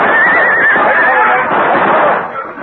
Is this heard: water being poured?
no